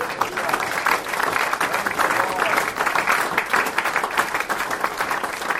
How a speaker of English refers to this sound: Appreciate all of your hard work. Would you just give the church a hand clap?